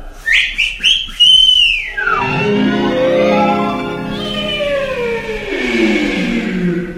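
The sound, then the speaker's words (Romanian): A loud, shrill whistle made to summon a falcon, in a few quick rising-and-falling bursts, then a long, swelling harmonic tone that glides down and rises again, with no talking. “Vine la o numită fluierătura mea.”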